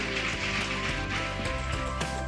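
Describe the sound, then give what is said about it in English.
A church audience applauds those who received Christ that day in a steady, dense wash of many hands clapping together, with sustained musical tones playing underneath the whole time. “Church, would you go ahead and give a hand clap for those that received Christ today?”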